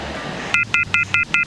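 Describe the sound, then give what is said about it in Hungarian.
A telephone line's disconnect tone after a caller to Fan FM Rádió hung up: a quick series of five short, evenly spaced electronic beeps, fairly loud and clear after a moment of faint background hum, with no one speaking. “Csüng még egyszer a telefon, úgyhogy én ezt is fölveszem akkor.”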